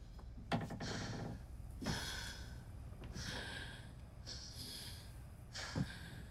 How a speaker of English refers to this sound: Savannah and Julie Ann limp into the kitchen breathing heavily.